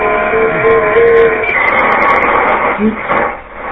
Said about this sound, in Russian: У меня два трансмиссера стоит. Icom 760 Pro, FT950. Цифра, пожалуйста, вот сейчас даже включу, тут цифра. Вот, наверное, тут. Вот он гудит днем и ночью.